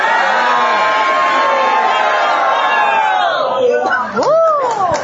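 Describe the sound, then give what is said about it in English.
A large crowd yells "hello" to ACB Radio World together in one sustained, drawn-out group shout lasting several seconds at a California Council of the Blind gathering, then trails off into scattered rising whoops and cheers near the end. “Can we have everyone yell as loud as they can, hello to ACB Radio World.”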